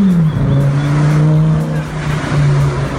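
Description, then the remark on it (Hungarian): A Lamborghini sports car roars loudly at high speed on a highway, a steady, strained drone with a slight dip in pitch partway through, continuous for about three seconds with no voices. “Lambói! Ez volt a másik.”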